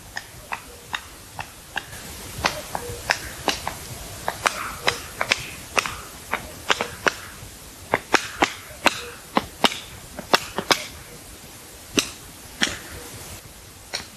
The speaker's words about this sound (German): Und dann haben wir dieses typische Flügelknallen. Viele sagen, das ist ein Klatschen.